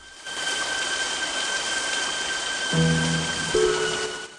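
Steady heavy rain pours down in a dense, continuous hiss, loud, with a low tonal hum briefly joining in near the end.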